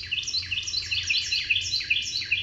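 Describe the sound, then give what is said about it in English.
A songbird sings a rapid, continuous stream of high, sweeping chirps and trills, steady in loudness, with a faint low hum underneath and no voices. “Bird songs for Bird Note come from the Macaulay Library at the Cornell Lab of Ornithology.”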